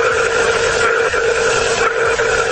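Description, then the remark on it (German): Sound heard by astronauts aboard the International Space Station ISS: a steady, loud mechanical drone with a bright whirring hiss fills the whole recording, with faint scratchy, knocking textures rising briefly out of it twice. No voices. “Auf der internationalen Raumstation ISS haben die Astronauten jetzt dieses Geräusch gehört.”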